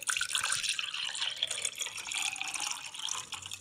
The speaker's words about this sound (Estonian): Paneme veel natuke kaera piima.